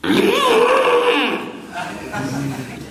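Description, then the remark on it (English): A person vocally imitates the roar of a huge elephant with giant tusks that has gone mad: a loud, strained, harmonic bellow that swoops up and then down for about a second and a half, followed by a quieter, lower trailing groan. “Huge elephant. Un elefante enorme. Giant tusks. Enormi zanne. He roared.”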